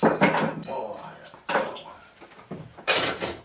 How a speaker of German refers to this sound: spült das Geschirr. Teller, Bestecke, Löffel. Alles wird zum Abtropfen gut einsortiert.